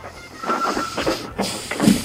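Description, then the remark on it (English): Denim jeans scratch and rub against a phone microphone, making rough, irregular bursts of scraping noise that swell and fade over about two seconds, with no voices. “I like how the denim scratches onto the microphone of the phone.”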